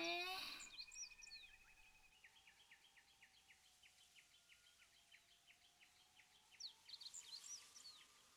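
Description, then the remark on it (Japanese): Small birds chirp in a quick, steady series of short tweets, fairly soft, with a few more varied calls near the end over a quiet outdoor hush, heard while camping. “目を閉じて、風や水の音、小鳥のさえずりなんかを聞いていると、それだけですごくリラックスする。”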